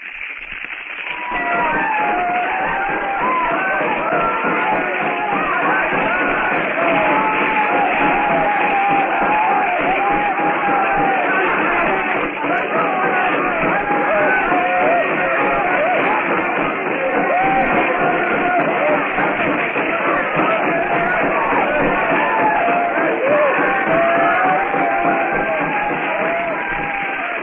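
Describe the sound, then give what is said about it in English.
A dense crowd of voices yells and whoops without pause, a loud, steady, muffled din of overlapping shouts rising and falling in pitch throughout, as people leap and dance in a circle around a burning hut in a kraal compound. “The blacks leap and yell as they circle the fire trap.”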